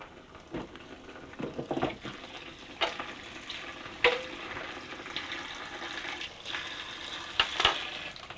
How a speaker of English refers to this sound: Right, there's the potatoes done anyway. Get them in some water.